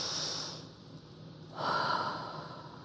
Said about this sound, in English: So let's do this one more time. Fill up your stomach like a balloon and then breathe it out.